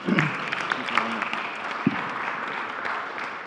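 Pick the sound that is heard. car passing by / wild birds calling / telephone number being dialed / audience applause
audience applause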